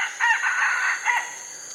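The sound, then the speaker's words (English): A single Southeast Asian jungle fowl crows a short, clipped cock-a-doodle call with harmonic, slightly raspy phrasing, heard clearly against a steady faint high hiss of insects. “The chickens they carried probably resembled the native jungle fowl of Southeast Asia, whose call we're hearing, from which modern chickens are descended.”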